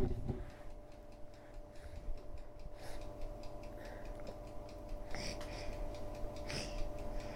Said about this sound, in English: See now, put on the clock. Isn't that good? Hear the tick tock, tick tock, tick tock, tick tock, tick tock, tick tock.